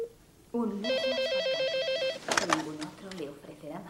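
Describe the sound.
A telephone rings with a single warbling electronic trill lasting over a second, clear, then people start talking right after it stops.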